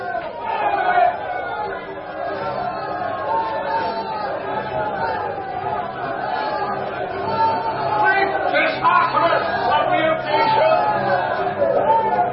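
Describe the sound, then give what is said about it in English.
A large, furious crowd clamors continuously for about twelve seconds, many voices overlapping into a loud, agitated roar of shouting with no single voice standing out. “They heard this with furious and began shouting.”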